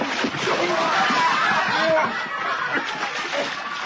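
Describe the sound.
Heavy splashing and sloshing of water as a man is thrown into water and thrashes about, continuous, with voices and chuckling mixed in.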